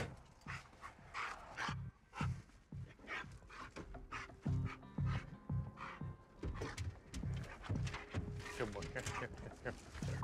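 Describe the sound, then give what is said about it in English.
A police dog trained to detect drugs pants and sniffs busily around the outside of a vehicle, alerting to the passenger side and trying to go into the open window, with quick rhythmic breathing and occasional snuffles, while people talk intermittently in the background. “You okay if I run the police dog around the outside of the vehicle?”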